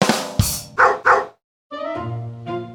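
animal, dog barking

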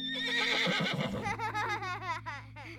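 animal, horse whinnying

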